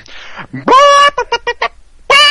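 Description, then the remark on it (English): A person imitates a chicken: a loud drawn-out squawk, then a quick run of short clucks, ending with another loud squawk. “I'd like to hear some Southern Fried Chicken.”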